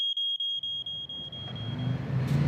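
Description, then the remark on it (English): A smoke alarm, set off by burning sourdough toast, shrills in rapid, high-pitched beeps, then its tone fades as a low rumbling noise, like a vehicle engine, swells underneath. No one speaks. “It's the toast! That's another thing I hate about sourdough. It sets off the smoke alarm.”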